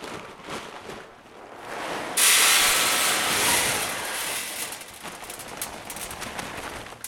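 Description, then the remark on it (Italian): A corn grinding mill, grinding maize kernels into flour, switches on abruptly after a quieter stretch, then runs with a loud, steady, hissing roar that rumbles and fluctuates slightly until the end. No one speaks. “Si è accesa la macchina.”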